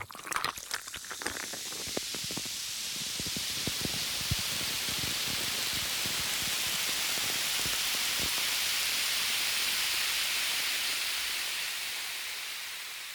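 A carbonated cocktail fizzes steadily with a bright, airy hiss, dense with rapid crackling pops at first that thin out into scattered ticks as the effervescence settles. No voices.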